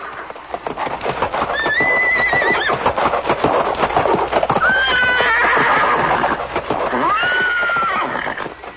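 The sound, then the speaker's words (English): A horse neighs loudly three times, shrill whinnies rising and wavering, over a steady busy clatter of hooves and noise. “Running with the speed of the mind, he tore up the earth with his hooves. The hairs of his mane scattered the clouds and the demigods' airplanes throughout the sky, and he terrified everyone present with his loud neighing.”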